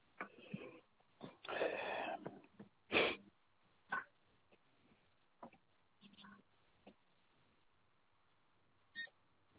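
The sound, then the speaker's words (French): A card payment terminal gives short electronic beeps while it restarts, scattered among soft clicks and handling noises, all faint and muffled as if heard over a phone line. “Pour l'instant, j'ai toujours Ouais, la grande j'entends barre le au milieu. bip-bip.”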